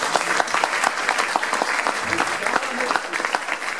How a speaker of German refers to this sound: Give Jesus a big hand. Gib Jesus einen Applaus.